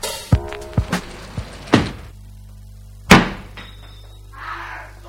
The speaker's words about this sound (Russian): Майор, прикрой-ка дверь.